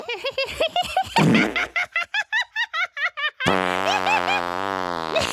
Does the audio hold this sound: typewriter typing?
no